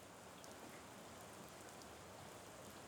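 Steady rain falls outside in a continuous, even hiss with faint scattered drop ticks, moderately soft, with no voices or other sounds.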